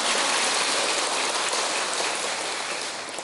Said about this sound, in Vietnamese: Cho tràng pháo tay.